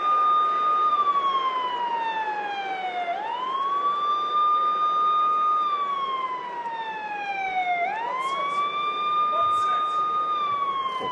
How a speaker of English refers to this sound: What is that? Obviously an ambulance. And oh my God, it's McIntyre! What in the world? How Drew McIntyre's back, and he looks angry, Michael Cole. How in the world is McIntyre back? The WWE Champion driving the ambulance into the arena.